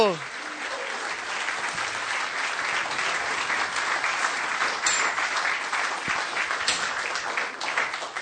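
Sustained audience applause for a group of Vaishnava performers after a drama at a Hare Krishna gathering, a dense wash of many hands clapping at steady loudness, continuous without letting up.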